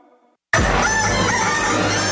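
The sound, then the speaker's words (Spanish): A rooster crows loudly as the station jingle for El Gallo on Radioactiva radio, bursting in abruptly after a brief quiet moment and holding a long, strained call to the end, with no talking. “En este radio se escucha El Gallo.”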